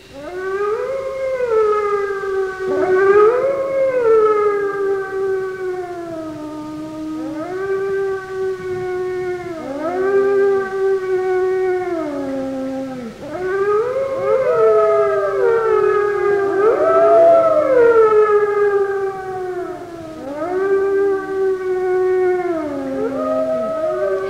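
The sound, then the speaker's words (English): A pack of wolves howls together, the others joining in after one wolf starts, several long, rising and falling voices overlapping and weaving around each other, loud and sustained throughout with no talking. “All one wolf has to do is start howling. And in a minute, the other members of the pack have trotted up to his side, and they've joined in the song.”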